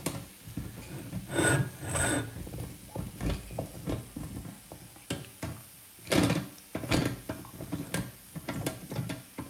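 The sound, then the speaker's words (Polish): Irregular mechanical clicking and ratcheting as the mechanism of a model steam engine is turned by hand, with bursts of rattling gear noise rising and falling over several seconds. “Przez chwilę się tylko to ręcznie rozkręcę.”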